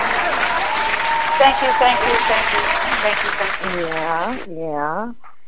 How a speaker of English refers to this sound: Yeah, hand clap for that.